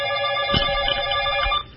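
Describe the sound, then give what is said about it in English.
A telephone rings for an incoming call with a steady, bright electronic trill, loud, sustained through nearly two seconds before cutting off abruptly. “Wait, we have an interrupted phone call.”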